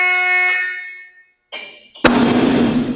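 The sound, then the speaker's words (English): At a firing range, a loud, blaring horn-like alarm sounds, then fades out. A brief second blare follows, then a gun loaded with hydrogen gas and a gunpowder charge fires: a sudden sharp blast gives way to a sustained, roaring rumble. No one speaks. “Everyone retreats to the control room, the doors to the firing range lock shut, and an alarm sounds before the gun fires.”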